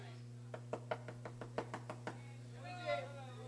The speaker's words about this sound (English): Anybody home? We're not even home. You can't hear the knock.